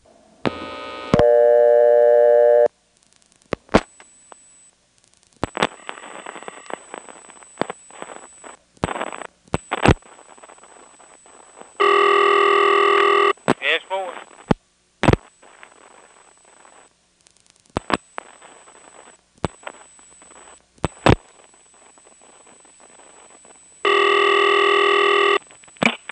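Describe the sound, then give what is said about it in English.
A telephone trunk is reset by a momentary hang-up, staying on the service code selector, and 611 is dialed: sharp switching clicks, a few loud bursts of chirpy multi-tone signalling, and steady line hiss with a thin high tone, no voices. “When he answers, I'm going to hang up momentarily enough to reset the trunk. Won't go back to dial tone. We'll stay on the service code selector and we'll dial 611.”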